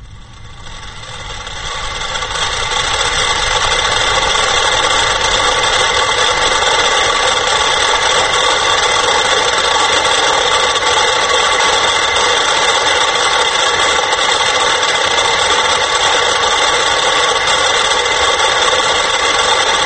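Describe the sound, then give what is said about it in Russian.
A dense swarm of many metronomes ticking at once, their clicks blurring into a steady, buzzing mechanical texture that swells over the first two seconds and then holds loud and unbroken, with no voices. “И я хочу показать небольшой, щадя наших слушателей, отрывок из этого опуса Лигети, симфоническая поэма для 100 метрономов в исполнении ансамбля метрономов лейбл Sony.”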